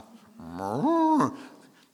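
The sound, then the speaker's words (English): A single drawn-out, wavering bleat, clearly a human voice imitating a sheep. It rises in pitch, holds with a shaky quaver for about a second, then breaks off, loud. “Dead sheep don't baa last time I checked.”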